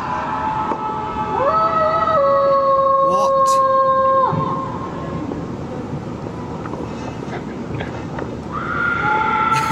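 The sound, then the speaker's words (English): Students scream out of windows across a university campus, long high wavering shrieks that hold steady and then drop away, with more voices joining at the end over a constant noisy background; someone briefly speaks. “They all start screaming all around.”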